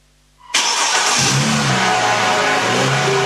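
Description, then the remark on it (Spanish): After a brief near-silence, a car engine roars to life and revs loudly and steadily, its pitch climbing, filling the rest of the moment with no one speaking. “Este año, el motor de tu auto no solo te mueve a ti, también levanta a cientos de familias afectadas por los incendios forestales.”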